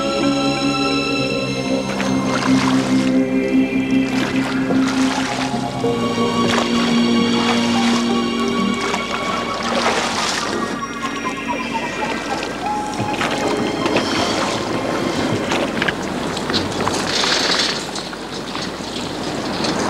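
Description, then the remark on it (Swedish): A rowboat moving through water on its second lap around the stream, rowed by a group trying to recreate an old rowing technique, with steady creaking and splashing from the oars, continuous and fairly loud, with indistinct voices mixed in. “Steg för steg har de försökt komma så nära den gamla roddtekniken som möjligt.”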